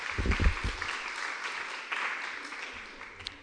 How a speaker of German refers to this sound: Du kriegst auch einen Applaus, wie alle anderen vorher.